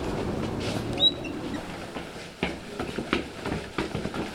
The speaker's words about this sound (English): Boy, that's a big sound. What was that? That's the fast-moving train headed out from Boston, echoing into this empty loft space that we're working in. So the loft is the filter for the train.